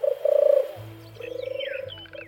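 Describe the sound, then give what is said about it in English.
A dove coos in low, soft, throaty phrases, the notes rolling in two short bursts with a brief pause between, with faint bird chirps in the background. “The dove is a bringer of hope and peace.”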